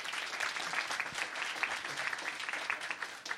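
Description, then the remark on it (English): A crowd claps steadily, a dense, continuous wash of many hands that holds at an even loudness throughout before easing slightly at the very end. “So let's give them a round of applause on that one.”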